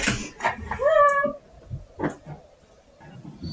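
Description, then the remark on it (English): A single drawn-out meow from a cat named Malcolm, fairly loud, rising then holding its pitch for about half a second, surrounded by soft rustling and muffled movement noises. “I don't know if I can make a meow.”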